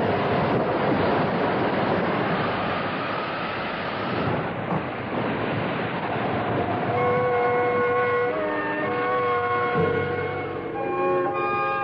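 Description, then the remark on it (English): A loud, steady roar of a storm at sea around a ship, with crashing waves and rushing wind filling the whole stretch; about halfway through, high whistling tones rise above the din. No voices. “But you can't blame me for the storm. If it gets any worse, the whole crew will be blaming you.”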